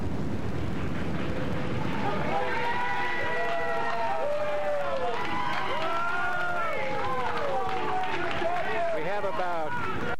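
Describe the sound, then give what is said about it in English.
About seven to nine people, merchants among them, clap and hoot as police seize a table and chair in Santa Cruz, with overlapping whoops and rising and falling cries over a steady patter of applause and general commotion, lively throughout. “And the merchants are applauding the police for doing that, and some are hooting.”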